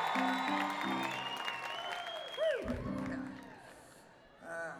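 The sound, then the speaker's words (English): An audience breaks into steady applause, a dense wash of clapping that runs the whole length, with a few whoops and cheers rising above it and a brief swell near the end. “Yeah, I would like it if you clap.”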